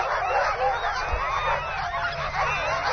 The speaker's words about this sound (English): The barking decrescendos as the last team departs towards the horizon.